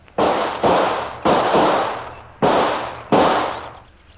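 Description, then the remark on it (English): Five loud gunshots are fired toward a patch of leaves in an uneven sequence, two quick ones, then a single shot, then two more, each sharp crack trailing off into a rumbling decay. No one speaks. “Come out from those leaves, whoever you are, or I'll shoot.”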